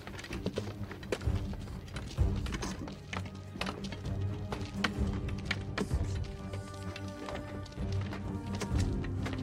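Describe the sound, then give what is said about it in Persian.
Soldiers, one by one, strike their wooden staffs against the ground in a series of sharp, irregular knocks, one after another, over a steady low droning background. “با نارضایتی کلاه خودشونو در میارن، چوب دستشونو میکوبن زمین، میرن.”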